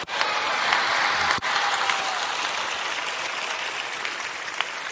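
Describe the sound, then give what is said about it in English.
Steady, dense applause from a crowd as a preacher counts and invites people to give their lives to Jesus, a continuous crackling wash of many hands clapping at once for several seconds, with a brief dip near the start before it carries on evenly. “Thank you, those who are clapping.”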